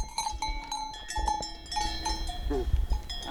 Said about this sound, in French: Quand elles font ce petit meuglement là, comme ça là, ça annonce qu'il y en a une en chaleur dans les parages.